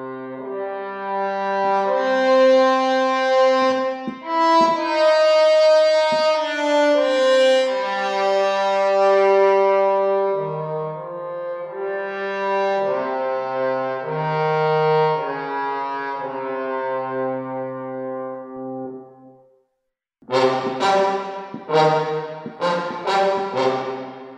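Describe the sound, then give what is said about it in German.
A melodic instrument played through Mir and Valhalla Vintage Verb effects plays long, sustained, harmonically rich notes washed in lush reverb for about twenty seconds, then after a short silence a few drier, clipped notes follow. “Es geht dann auch noch ein bisschen in hier Valhalla Vintage Verb, habe ich auch noch ein bisschen mit im Setup drin, noch standardmäßig.”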